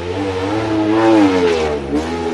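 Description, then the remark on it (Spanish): A stunt motorcycle engine roars at full throttle, loud, its pitch rising and wavering as it revs hard for a couple of seconds, while the rider comes at full speed, locks the brakes with white smoke and rides one-handed before the public. No talking. “Mirar cómo ruge.”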